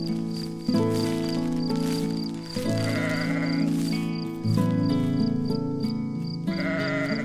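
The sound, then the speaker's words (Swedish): A sheep outside a tent in the dark bleats loudly in a string of long, drawn-out calls, wanting to come in, each wavering cry following right after the last with no pause and no talking. “Det är bara fåret som vill komma in, säger Bubblan.”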